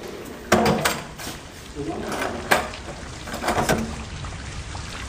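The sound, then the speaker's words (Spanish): A door swings shut with a sharp thud, followed by a couple more knocks and rattles, set against a steady rain-like hiss in the background. “Ahora cierre la puerta y déjeme solo.”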